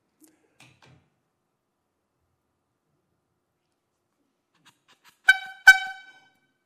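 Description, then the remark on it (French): Two short, loud horn honks in quick succession after several seconds of near silence, each a bright, buzzy blast that cuts off abruptly. “Lorsque vous partez, un moyen de communication est le klaxon.”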